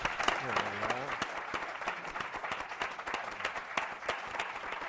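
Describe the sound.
A crowd applauds steadily for a local champion being introduced, with dense overlapping claps filling the whole span at an even, fairly loud level. A voice briefly rises and speaks over the clapping near the start.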